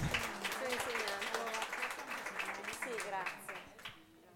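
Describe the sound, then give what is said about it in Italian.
A crowd applauds people as their names are read out, with a steady patter of many hands clapping running throughout while a man keeps talking over it at moderate volume. “ok, quindi l'applauso se lo prende anche lei, anche questo.”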